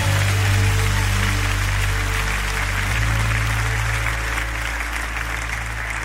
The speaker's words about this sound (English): When you clap your hands, you unblock your pride. Come on, unblock your heart. Give God praise in this place.